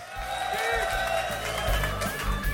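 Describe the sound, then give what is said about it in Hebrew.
A concert audience breaks into steady applause for the musical director, mixed with cheers and shouts, a dense, continuous wash of clapping that stays fairly loud throughout, with voices rising. “תנו מחיאות כפיים למנהל המוזיקלי”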